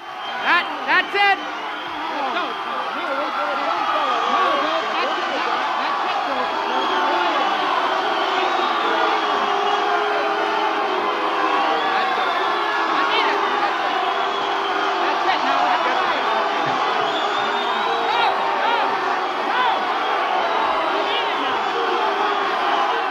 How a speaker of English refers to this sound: And here you are at the mic trying to end the concert as people start booing you.